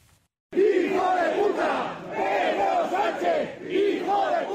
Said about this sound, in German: Unter lautstarken Protesten seiner Anhänger.